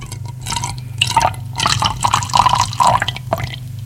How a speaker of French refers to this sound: Je sers un verre d'eau du robinet.